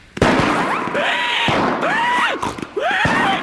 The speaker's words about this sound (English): What's that? It's the fireworks. They are an important part of the fair.